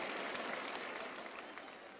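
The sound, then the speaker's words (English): Steady applause from an audience fills the space, a dense patter of many hands clapping at once, fairly loud and continuous without any voices over it. “Whew, you're not all clapping.”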